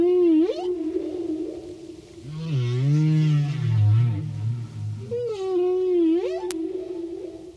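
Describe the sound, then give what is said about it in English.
Humpback whale song recorded in Hawaii: long, sliding moans and rising whoops with rich harmonics, a low groaning phrase in the middle, all echoing underwater with no voices present. “This is humpback whale song, recorded in Hawaii.”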